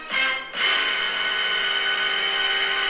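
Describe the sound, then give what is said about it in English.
A mobile phone ringtone sounds loudly alone: a bright, buzzy electronic tone that starts, breaks off for a split second, then holds steady and unbroken to the end. “Sorry, that's the ringtone on my phone.”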